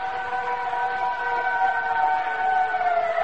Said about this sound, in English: That sound. It's just a fire siren. Just a fire siren. That's all. It's a fire siren.